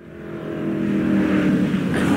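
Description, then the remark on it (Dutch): The engine of a Mercedes-Benz 300 SLR Uhlenhaut Coupé, a car based on the 300 SL, revs, its deep, harmonically rich growl swelling over the first second and then holding loud and steady, with no voices. “En op 1 staat de Mercedes-Benz 300 SLR Oelenhout Coupé.”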